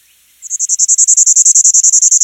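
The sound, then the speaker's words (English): Bachman's warbler song: a loud, rapid, buzzy trill held on one high pitch, roughly seventeen quick pulses running steadily for about two seconds, with no voices. “Some of the birds recorded are now extremely rare, or perhaps even extinct, like this Bachman's warbler, a former resident of the southeastern United States that hasn't been seen since 1988.”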